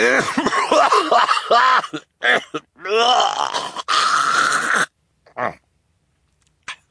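A man's loud coughing fit into a white handkerchief: raspy, throaty hacks and rough bursts run for several seconds, then trail off into a couple of brief, quieter coughs.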